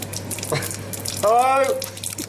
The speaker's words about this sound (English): And then the tap started to not work. Here's me shouting hello at a tap. Look, we've barely got water. Look, hot.